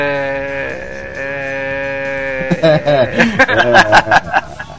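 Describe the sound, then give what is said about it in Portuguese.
A voice imitates a goat bleating, starting with a long, steady nasal tone and breaking into a run of choppy, quavering bleats mixed with chuckles, loud. “Ficaram imitando Zerro lá, ficaram imitando cabra”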